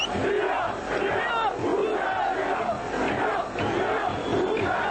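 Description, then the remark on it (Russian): A large crowd of about 10,000 opposition supporters in the streets of Budapest shouts and chants together, demanding Prime Minister Gyurcsány's resignation, in a loud, sustained roar, with rhythmic swells of voices rising and falling throughout. “Накануне около 10 тысяч сторонников оппозиции вышли на улицы Будапешта, требуя отставки Дюрчаня.”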